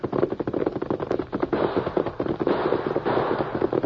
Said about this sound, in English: Gunfire. That shack where the parson lives.